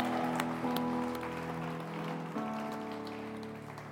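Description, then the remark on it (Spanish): An audience claps steadily for Jesus at a church service in a dense, crackling wash of applause, with sustained keyboard chords ringing underneath; the clapping stays fairly even throughout. “Vamos, aplaude fuerte a Jesús por eso.”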